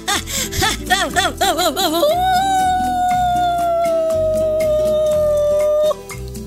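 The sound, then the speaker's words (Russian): A run of short, wavering whimpers gives way to one long, steady dog howl that slowly sinks in pitch before cutting off, all over soft background music; the fairy-tale character Ivanushka has turned into a little dog. “Превратился Иванушка за свое непослушание в собачку.”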